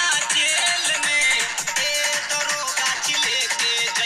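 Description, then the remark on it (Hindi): A phone rings with a melodic, music-like ringtone playing steadily and fairly loud, its tune repeating in short rhythmic phrases with no voices, as a woman places a call to the police. “रुक अब पुलिस वाके फोनवा करो ही हो।”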